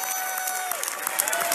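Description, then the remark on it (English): A large audience at Joel Osteen's church claps and cheers steadily as protesters are escorted from the sanctuary, a dense wash of applause, with a faint sustained tone gliding underneath. “to the applause and the cheers of the congregants there at Joel Osteen's church.”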